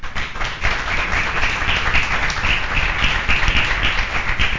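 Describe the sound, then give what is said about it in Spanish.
A crowd applauds steadily, a dense, continuous wash of many hands clapping at a fairly loud, even level with no voices standing out. “Bueno, no he terminado, dije eso era para que me aplaudieran.”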